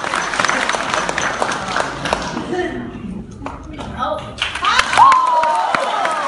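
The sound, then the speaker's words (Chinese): An audience applauds in a dense burst of clapping that thins out after a few seconds, followed by crowd voices and a rising vocal shout near the end. “感谢各位的掌声鼓励啊！”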